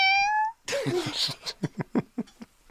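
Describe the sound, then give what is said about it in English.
A person makes a drawn-out, wavering meow with their voice, imitating a cat, followed by a quick run of short, breathy bursts. The vocal meow is fairly loud. “I can make a cat sound.”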